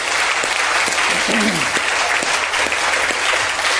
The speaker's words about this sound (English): So listen, thank you so much. Yeah, let's give them a round of applause, yeah?